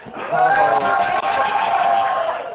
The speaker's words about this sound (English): Can you guys yell a little louder to make him feel bad for not coming today?